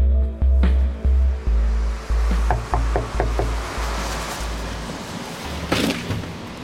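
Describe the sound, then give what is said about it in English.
A series of loud, heavy knocks on the door of a home, several thuds in an uneven rhythm, followed by a short run of quicker raps, with no voices. “Thank God I heard you knocking on the door.”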